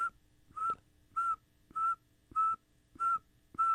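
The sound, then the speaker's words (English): A person whistles an imitation of a northern saw-whet owl: six evenly spaced, short, mid-pitched toots in a steady, monotonous rhythm, each clear and fairly loud, with no talking. “But if you're going to make me imitate mm-hmm, one, it would be the northern saltwood owl, because it just sounds like.”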